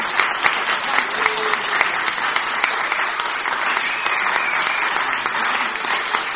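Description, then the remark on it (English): Sustained audience applause for the participants who took part, a dense, steady patter of many hands clapping at a fairly loud, even level throughout, with no voices standing out. “Do you give them all a round of applause?”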